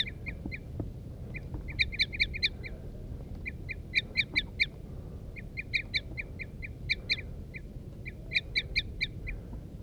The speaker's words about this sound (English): Female and male responding. Loud toop the female, soft toop male.